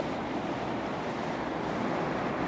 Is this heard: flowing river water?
yes